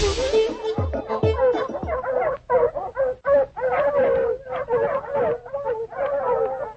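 Several stray dogs bark and howl together in a steady, overlapping chorus, long wavering howls mixed with sharp yelps and barks, loud throughout.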